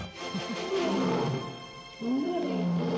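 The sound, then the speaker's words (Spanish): A person imitates a lion's roar: two loud, growling, throaty bursts, the second starting after a short dip, with no other talking. “¿Esto es la Metro Golden Mayer? La Metro Golden Mayer. ¿El león?”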